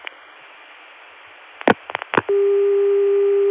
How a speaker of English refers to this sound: Now, the same dial tone can be gotten through 454, and here...